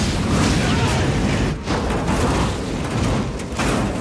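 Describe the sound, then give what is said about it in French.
A car bomb in a Fiat 500 explodes, set off when a carabiniere opens the trunk: a dense, roaring blast that rumbles steadily, dipping briefly twice before surging back, loud and overpowering throughout. “Et puis, l'un des carabiniers ouvre le coffre qui déclenche le détonateur.”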